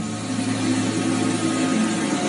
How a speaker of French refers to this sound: C'est un défilé de mode. Nous sommes à Jeddah, en Arabie Saoudite, dans le hall de l'hôtel Hilton. Et ce qu'on entend, ce sont des drones.